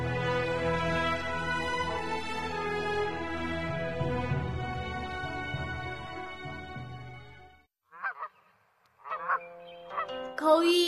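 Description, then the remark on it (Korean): A flock of geese honks together in a dense, continuous chorus, then goes briefly quiet before a few separate, loud, nasal honks ring out. “거위, 굽은 목은 하늘을 향해 노래 부르네.”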